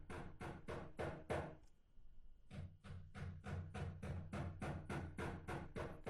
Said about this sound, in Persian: اما یک صداهایی میشنوی. اینا میگیم ایره دیگه کی پوره کنه؟ نه واقعا کی پوره کنه؟ همسایه جان ساعت 2 بجه شب چکش به دست گرفته و میخ به دیوار خانه خود میکوبه. اینا گوش کنیم.